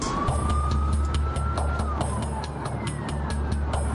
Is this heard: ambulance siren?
yes